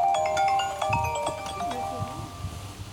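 A burial sanctuary worker's mobile phone rings with a bright electronic melody of repeating tones, steady for a few seconds with no one speaking over it.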